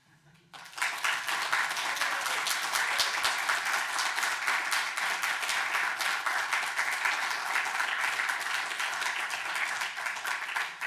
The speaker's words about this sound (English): And I think the organizers and the volunteers here deserve a little bit of applause.